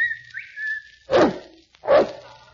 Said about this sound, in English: I'll whistle for Kelowna.